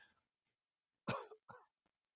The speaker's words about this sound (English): Anyway, so I apologize for all the coughing. This is how redonkulously out of shape I am.